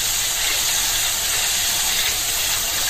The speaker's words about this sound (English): turn on the water. Actually, I'm going to fill up the sink so I can drain whatever. I can throw away whatever comes out. I'm going to start scrubbing this thing. And the water is running.